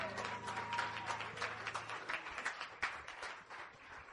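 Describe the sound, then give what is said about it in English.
An audience claps and cheers together for the Lord in a dense, steady burst of applause lasting several seconds, with a sustained low vocal tone under the first half before the clapping thins slightly. “Praise the Lord. Give the Lord a cheer.”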